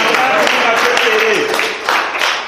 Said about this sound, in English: How many of you can clap your hands for that? How many of you can clap?